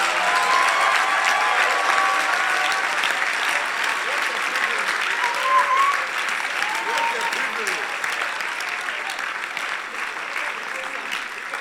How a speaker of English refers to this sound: Oh, you are not clapping properly.